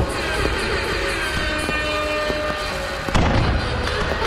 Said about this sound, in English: And cut the fireworks. It's just us.